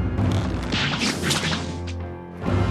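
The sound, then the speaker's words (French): A rope is sliced by Mulan and drops away, twirling to the floor: a sharp thwack followed by whipping, swishing sounds as it falls, loud and dense with no voices. “Mais avant qu'il n'ait le temps de l'atteindre, Mulan lui coupe la corde sous le nez.”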